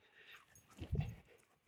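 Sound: dog panting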